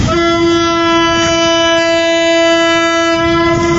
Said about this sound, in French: Ces klaxons signalent l'arrivée à la gare de Matadi d'un troisième train marchandise. La locomotive 1432 en provenance de Kinshasa a tracté 9 wagons de conteneurs de 40 pieds dans un seul convoi.